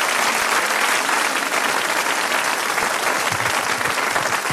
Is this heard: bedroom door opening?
no